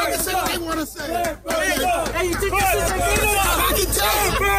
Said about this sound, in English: He's got half blue, half red Clippers jacket with a Clippers hat on, and he's getting all the attention, and everyone's behind him just booing.